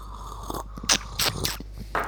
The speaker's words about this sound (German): Du musst ihn unter die Zunge kriegen. Ich glaube, das ist auch extra lecker, sich das anzuhören, wie wir schlürfen.